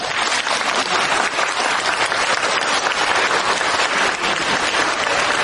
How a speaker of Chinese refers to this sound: 鼓掌